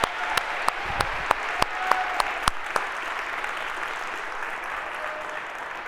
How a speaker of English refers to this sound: If we could, a huge round of applause for everyone that makes this possible.